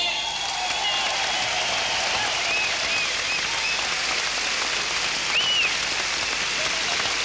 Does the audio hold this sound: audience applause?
yes